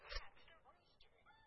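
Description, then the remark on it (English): A brief, tinny rooster crow played from a talking toy after its knob is pulled, with a short burst at the start followed by warbling, rising and falling tones, moderately loud. “I see the rooster. Then pull the knob.”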